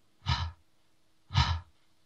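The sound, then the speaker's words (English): Two loud, heavy breaths from a man, each a broad rushing exhale lasting about a third of a second, separated by a short pause, with no talking. “Oh, he's always breathing heavy.”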